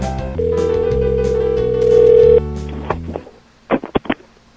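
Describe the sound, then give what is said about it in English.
A steady telephone tone sounds for about two seconds over a low, droning hum, then fades into a few quick, sharp clicks like a phone being dialed or picked up. “Let's make a phone call or two.”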